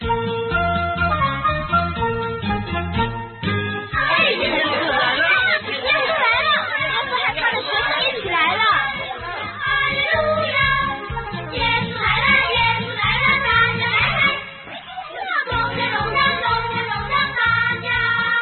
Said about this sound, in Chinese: 前头传来了一阵阵的欢呼声，还有人唱歌呢。